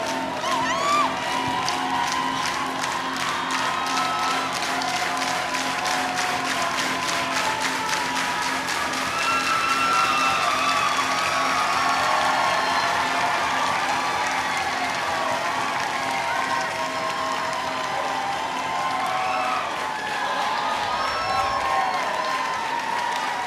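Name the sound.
concert crowd cheering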